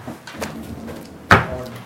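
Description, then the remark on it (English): An office chair rolls with a low, rumbling scrape and a few light knocks, then bumps into something with one sharper thud near the end, with no talking. “Wow, this chair's just running all over the place.”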